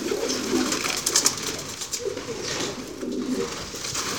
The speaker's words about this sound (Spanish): Tenemos palomas para acordarnos de la libertad, pero solo los grandes les pueden dar de comer.